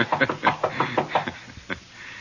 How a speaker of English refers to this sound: Do we break in, or do I pretend I'm a gentleman and knock?